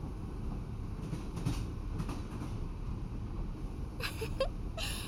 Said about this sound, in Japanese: こうして眺めながら通過するだけでは少し味気ないので、この先で少し列車を停止させる予定です。